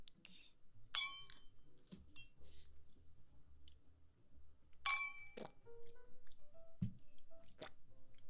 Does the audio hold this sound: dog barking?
no